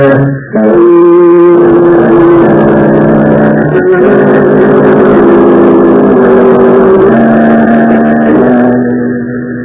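car engine running

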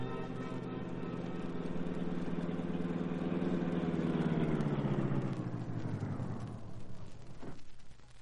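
car engine running

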